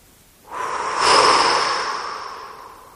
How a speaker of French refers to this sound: Dans cette posture qui permet de relâcher le plus de muscles possible, nous allons inspirer et soupirez 3 fois d'affilée. Inspiration.